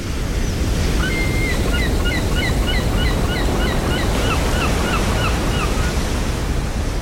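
Steady, loud rush of sea waves as heard from a ship's deck, with wind noise throughout and many short, chirping bird calls scattered above it. No voices.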